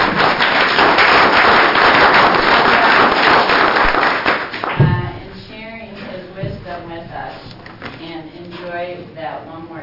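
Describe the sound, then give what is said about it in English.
An audience applauds loudly for about four and a half seconds for a man who is retiring, a dense wash of many hands clapping at once, before the clapping dies away and a person starts talking. “But our loss, why don't we clap for him now for all his.”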